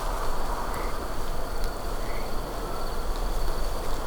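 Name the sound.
cricket chirping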